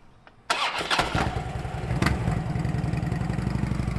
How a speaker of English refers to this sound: a sky blue motorcycle is today's ride for Ken Kelly, passing through town